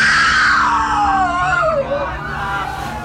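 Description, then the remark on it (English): Loud, panicked screaming, a long shrill cry sliding downward in pitch, with more frantic voices and crowd commotion churning underneath for the whole three seconds. “Even with the pills, I only slept a few short hours when I was suddenly woken by screams.”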